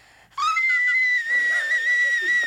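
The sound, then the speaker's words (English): A piercing, steady high-pitched vocal whistle from a person attempting a sung whistle tone rises abruptly and holds for about two seconds, shrill and like a tea kettle, with faint breathy warbles underneath. “It's more of a tea kettle than a whistle tone.”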